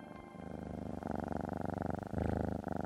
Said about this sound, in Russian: Шпунтик вздохнул и увеличил градус мурлыканья.